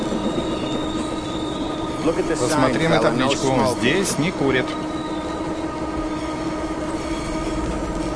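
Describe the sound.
A metro train rumbles steadily throughout, its wheels letting out a high, thin squeal over the constant roar, while a man speaks briefly over the noise partway through.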